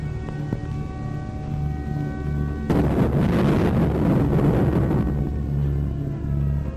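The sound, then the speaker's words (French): During a German air raid on London in the Blitz, a steady low droning hum is broken midway by a heavy, roaring explosion rumble from bombing that swells for a couple of seconds, then fades back into the drone. No one speaks. “La petite Anne est terrorisée par les alertes constantes et les explosions.”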